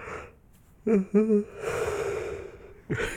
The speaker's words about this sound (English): You don't yawn like that unless you're sleepy, baby.